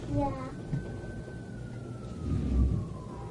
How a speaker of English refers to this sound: What do you hear, Nathaniel? The fire engine.